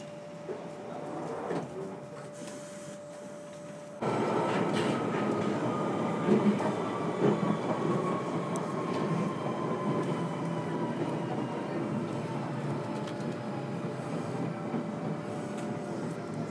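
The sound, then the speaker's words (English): A London Underground train on the Waterloo and City line, which runs only between Waterloo and Bank, hums along at first, then a sudden louder surge at about four seconds becomes a steady roaring rumble with rattling and a faint falling whine as the carriage runs on. “I have to say that when it runs properly, the Waterloo and City is a really brilliant little line.”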